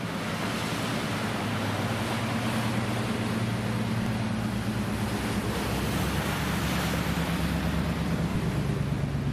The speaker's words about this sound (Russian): Смотрите, что тут у нас. Мы как бы на границе тумана такого и солнышко. И вот волна, и там ребят на досках.